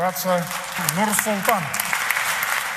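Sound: stormy applause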